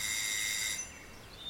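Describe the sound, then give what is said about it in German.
A house doorbell rings once with a bright, high, buzzing metallic tone held for under a second, then fades away into quiet with no voices. It is rung by children visiting a home after a burglary. “Nun mach, Conny, klingel schon.”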